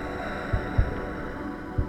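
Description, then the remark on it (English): A low, steady hum of halls drones on without a break, broad and constant, with a few soft, deep thumps rising briefly beneath it. “He listened to the eternal hum of the halls.”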